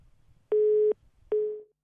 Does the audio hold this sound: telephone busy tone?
yes